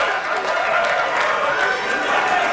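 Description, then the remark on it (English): A large New York crowd at the 1985 NBA draft at the Waldorf Astoria roars with cheers and applause, a dense, continuous wash of noise holding steady at high volume throughout, with indistinct voices mixed into the din. “As you can imagine, this is a New York crowd.”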